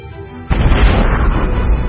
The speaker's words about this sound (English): They run through that fuel very quickly, and even after just a few million years, they already die. They died in some of the most violent explosions to rock the universe.